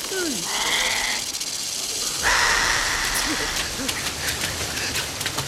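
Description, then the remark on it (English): An animatronic creature's wet, hissing venom spit bursts out, followed by a steady sizzling burn that crackles and pops like something frying on a man's face, with brief low creature-like squeals underneath. “You have to sell that animatronic, you know, and that spit sound, and even the sizzle, you could hear it kind of frying on his face.”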